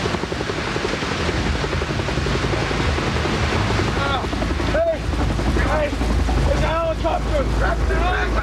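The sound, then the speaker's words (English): A loud helicopter rotor thumps in a fast, steady beat amid roaring wind and churning noise of a stormy sea, with raised voices calling out for help over the din in the second half; the helicopter is searching for men in the sea. “We heard the heavy drumbeat, the sound of a helicopter.”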